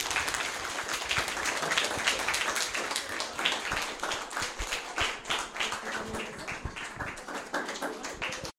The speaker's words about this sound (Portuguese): Então, uma salva de palmas para todos.